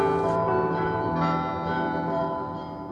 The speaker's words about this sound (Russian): Тогда ему навстречу над полями, тоской щемящей наполняя ширь, гудел тяжелыми колоколами старинный Святогорский монастырь.